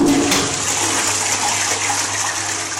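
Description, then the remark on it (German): A public toilet in Singapore flushes with a steady, loud rush of water that holds evenly for a few seconds, with a brief low gurgle at the start and a faint hum underneath. “Unbedingt abziehen, sonst drohen 150 € Strafe.”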